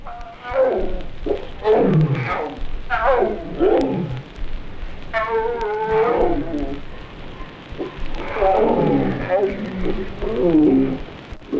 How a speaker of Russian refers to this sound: Львица со львятами.